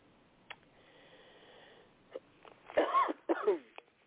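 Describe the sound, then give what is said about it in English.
Two loud coughs in quick succession, harsh and breathy, preceded by a few faint clicks and a soft hum. No one speaks. “Excuse me for coughing.”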